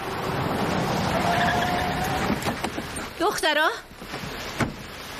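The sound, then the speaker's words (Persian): A dark four-door car rushes by as its driver tries to run people over, a loud surge of engine and road noise that fades, followed by a brief wavering squeal and a sharp knock. “یه ماشین 4 در تیره بود. اون آقای برنارد بود، میخواست ما رو زیر بگیره.”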